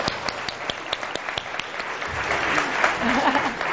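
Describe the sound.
Audience applause, starting as scattered sharp claps and swelling into a fuller, steady wash of clapping, with a few voices calling out beneath it toward the end.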